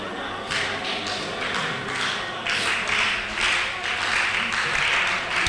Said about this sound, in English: Oh, am I hearing shouts of rejoicing? Am I hearing claps of celebration?